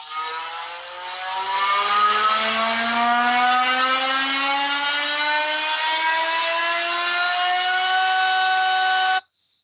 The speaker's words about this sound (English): And they better have just mental anti-lag when they're revving on the line. Like, yeah. I don't know if you've ever heard a car with proper mad anti-lag, like just flooring it. Yeah. But the pops and bangs are ridiculous.